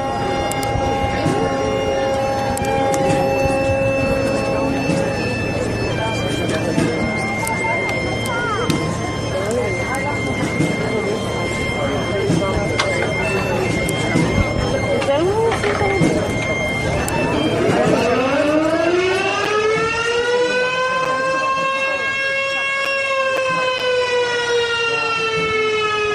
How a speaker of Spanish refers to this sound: Ya que estamos hablando de fiestas de Burela, un poquito de sonido también de las fiestas de Burela con las sirenas de los barcos en medio de la procesión de la Virgen del Carmen. Esto forma parte de un vídeo de la procesión marítima de Burela.